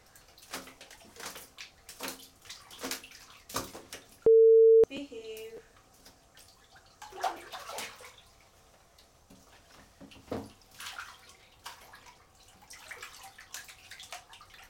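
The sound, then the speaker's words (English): Bath water splashes and sloshes in a bathtub in irregular bursts, some sharp and loud, others soft, with a brief steady electronic beep cutting in partway through. “Time to come out because your water is getting cold.”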